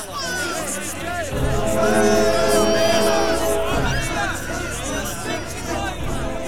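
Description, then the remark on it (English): A rowdy, excited crowd at the Dean's Gate end, dressed in their Sunday best, fills the air with loud, overlapping voices, shouts and whoops rising above a steady babble of chatter that swells and stays dense throughout. “It's becoming much more rowdy. I don't like this. Everyone's excited.”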